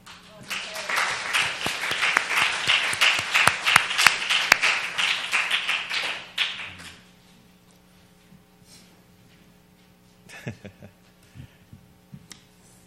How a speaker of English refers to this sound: Let's give just one more clap offering to God for what he's done in these sisters' lives.